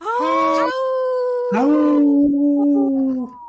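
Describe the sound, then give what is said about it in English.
Several people on a radio show howl together in unison in imitation of wolves: a short rising howl, a brief pause, then a longer sustained howl that holds its pitch before trailing off. Loud and clear, with no speech. “We're in unison, like a boy band.”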